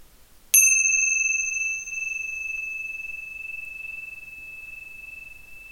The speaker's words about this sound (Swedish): När jag ringer i klockorna för andra gången är övningen slut.